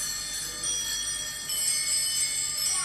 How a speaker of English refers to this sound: It is bells. You can't argue with that. It's a lot of bells. Too many bells, I think.